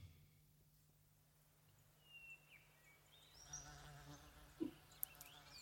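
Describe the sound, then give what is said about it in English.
A low, steady insect buzz, a bee sound effect in a song intro, drones throughout, with faint chirps and brief clicks rising over it toward the end. “Just in case you didn't know what a bee was.”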